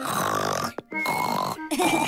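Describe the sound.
A voice loudly imitates snoring: three long, rasping, grunt-like snores in quick succession with brief pauses between them, with no other talk, mimicking how Uncle Pig snores loudly when he falls asleep after lunch.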